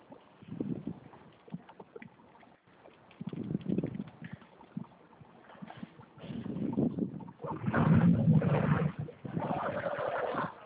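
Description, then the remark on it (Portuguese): Rumbling engine noise inside a bus, uneven at first with low bursts, then swelling into a louder, steady drone with a humming tone near the end. No one speaks. “Não, é porque o barulho aqui do ônibus é fogo.”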